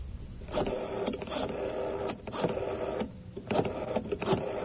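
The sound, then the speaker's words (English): Someone dials a telephone number: a series of mechanical clicks and clacks in an uneven rhythm over a steady low hum, with no voices. “I must have dialed it wrong.”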